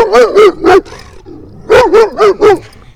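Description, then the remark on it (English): A dog barks in two quick bursts: three sharp, loud barks, a short pause with faint low rumbling, then four more barks in an even rhythm. “Oh, there's a dog up here. Hi, doggy.”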